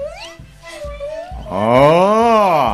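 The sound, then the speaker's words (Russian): A loud, drawn-out animal growl swells up after a quieter tonal whine, rising and then falling in pitch over about a second, with soft rhythmic thumps beneath. “Еще громче зарычал волк.”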